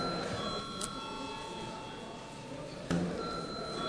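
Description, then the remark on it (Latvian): A parliament chamber bell rings steadily and continuously, calling deputies to vote on Economics Minister Štokenbergs's first proposal, a sustained electronic tone with faint murmur and shuffling in the background. “Cienījamie kolēģi, lūdzu balsojam par pirmo ekonomikas ministru Štokenberga priekšlikumu. Lūdzu zvanu.”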